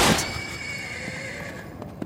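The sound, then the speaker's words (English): A horse lets out one long, loud whinny, its shrill, wavering call gradually sliding lower over about two seconds, with no one talking. “I'm trying to offload these socks and this tomorrow horse.”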